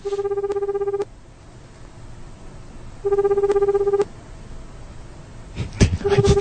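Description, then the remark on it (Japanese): A telephone ringback tone purrs in steady one-second bursts with long pauses between, repeating as a call goes unanswered; a brief muffled bump and low voices sit in the gaps. “あの、今呼び出し中ですね。”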